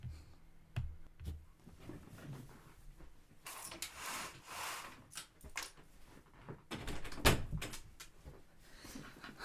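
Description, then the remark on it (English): Doors and windows being shut in a hurry: a series of wooden knocks, sliding rubs and thuds, with a sharp bang near the end. “We need to turn off all the lights and close all the doors and windows, okay?”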